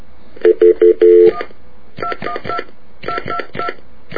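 Telephone keypad tones as a number is dialed: three quick, steady beeps, then a longer, held tone, all at the same pitch. A voice then speaks, sounding thin as if over a phone line.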